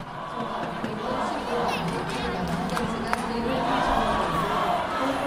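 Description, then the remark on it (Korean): A large crowd of spectators roars and cheers continuously for the unified Korean team after its first goal against Sweden, chanting "we are one" and "Korea, win", a dense wash of many voices that swells slightly toward the end, with a sharp knock cutting through midway. “연일 우리는 하나다, 통일 조국, 코리아 이겨라를 외치며 단일팀을 응원한 관중들은 단일팀의 첫 골에 기쁨을 감추지 못했습니다.”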